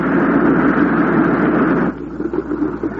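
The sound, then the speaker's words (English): A steady, loud drone from both engines of an old plane during a takeoff run on a runway lasts about two seconds, then abruptly drops off as the pilot cuts the power, leaving a weaker, uneven rumble winding down. “Both engines quit. He cut the power.”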